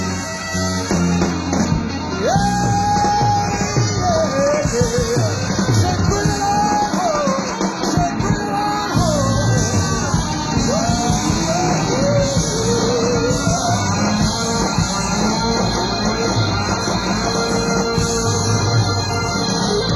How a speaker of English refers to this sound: Enthusiastic crowd we have out here on the floor of the Cow Palace for New Year's Eve 1975, 1976.